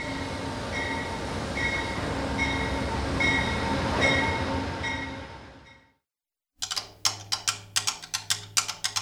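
An Amtrak train on a Pennsylvania route rolls along the rails with a loud, steady rumble and hum that fades out, then after a short gap comes a quick run of sharp rhythmic clacks.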